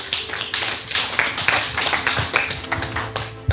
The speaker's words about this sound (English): You didn't clap your hands, friends.